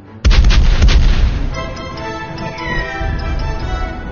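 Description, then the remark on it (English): Three cannons standing in a line, their fuses touched off with burning rope on the end of a pole, fire together in a single massive booming blast that rumbles for over a second, then fades into a lingering ringing echo. No one speaks. “The three cannons roared in a neat line, the black smoke of the discharge blocking their view for a few moments.”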